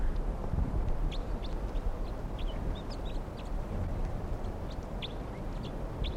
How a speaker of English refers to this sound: It's a huge flock. And they're starting to really weight down the net. Several of them are right here on the ground, foraging on grit next to some of the captives. A bunch of males and females together.